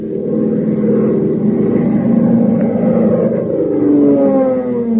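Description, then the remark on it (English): The steady, droning engine of Hop Harrigan's airplane roars for the whole stretch as it comes in to the control tower, a dense low rumble with humming tones whose pitch slides slightly toward the end. No voices are heard. “Fellas and girls, doesn't the roar of Hop Harrigan's plane make you want to learn to fly?”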